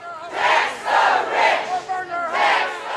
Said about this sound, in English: Last night in St. Paul, hundreds of them came out in the summer heat for a protest vigil at the Capitol.